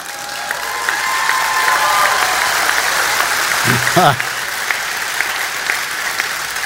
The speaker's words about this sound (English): So that was kind of a golf applause, but that's okay. No, that was a good applause. Cheer on the old people.